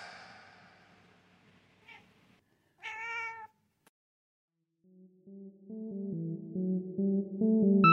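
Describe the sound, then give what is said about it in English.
Space Cat gives a short, clear meow after a fading electronic tone and a faint chirp, then a bright synthesized jingle climbs in steps and grows louder. No one speaks. “In space, no one can hear you meow unless you're Space Cat.”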